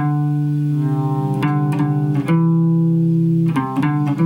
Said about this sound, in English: So it's gonna be tone, tone, perfect fifth, and then a semitone. So here's my whole tone.